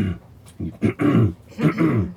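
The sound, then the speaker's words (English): A person imitates the throat-clearing noise that gorillas make in the highlands, a series of low, rough, guttural grunting bursts in an uneven rhythm, fairly loud with no words spoken. “It's like, they fart all the time, and they just make these clean throat noises.”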